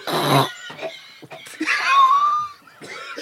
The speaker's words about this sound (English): Did you swallow something? It was a butterfly flying around here? Did you swallow it? Listen to him coughing and spluttering.